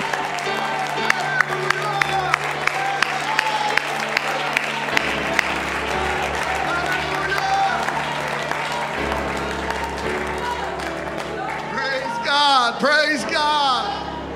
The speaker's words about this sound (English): Let's clap our hands and let's shout unto God, because just like that, your faith and my faith is linked together.